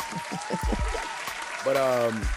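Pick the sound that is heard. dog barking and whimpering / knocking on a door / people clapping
people clapping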